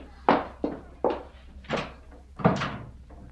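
A door is shut firmly but not slammed as someone leaves, a run of several sharp wooden thuds and knocks, with no voices around it.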